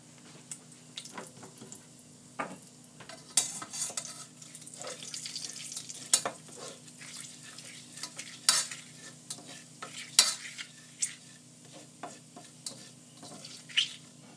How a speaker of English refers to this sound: Sizzling away.